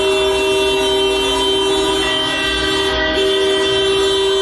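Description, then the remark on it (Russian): Many car horns blare together in one loud, continuous chorus of overlapping tones, held steady the whole time with no pauses and no voices, as motorists in Bakhchisaray honk for several minutes in solidarity after a minute of silence commemorating the deportation. “Затем все автомобилисты в течение нескольких минут сигнализировали в знак солидарности.”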